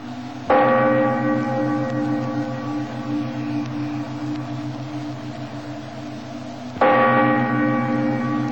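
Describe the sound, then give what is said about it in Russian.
A deep church bell tolls twice, about six seconds apart, each loud strike leaving a long, humming resonance that fills the gap until the next one. No voices are heard. “А знаешь ли, что с каждым ударом колокола твоя жизнь будет неукротимо истекать?”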